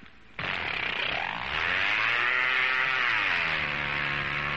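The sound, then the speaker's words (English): An old outboard boat motor, started by pulling a rope wrapped around its flywheel, suddenly roars to life after a brief quiet moment, its buzzing pitch climbing as it revs, then holding a loud, steady, high drone. “When they do start, they sound like they're going straight up.”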